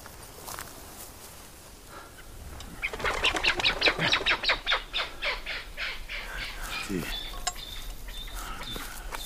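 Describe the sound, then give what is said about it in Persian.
A burst of rapid, repeated bird calls rises sharply for a few seconds, harsh and crow-like, then trails off into scattered chirps over a steady outdoor background, with faint rustling movement. “شاه به سمت پرنده‌ای نشانه رفته و جلو میره.”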